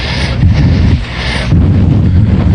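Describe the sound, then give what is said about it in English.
A loud, dense barrage of gunfire from a shooting downtown rumbles on without pause, heavy and low-pitched like rolling booms, dipping briefly partway through before surging again. No one speaks. “What's that? The shooting.”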